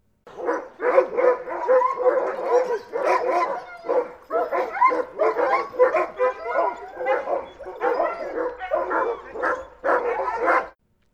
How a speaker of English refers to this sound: Here is a recording that was made by a ranger at Denali of sled dogs.